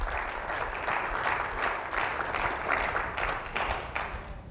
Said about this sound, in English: Let's give the Lord a good clap offering right there.